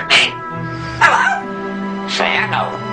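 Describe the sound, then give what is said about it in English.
A parrot mimicking human speech: three short, raspy, voice-like bursts with a nasal, wavering tone, separated by brief pauses over a steady low hum. “They sound familiar because these birds are able to imitate the human voice.”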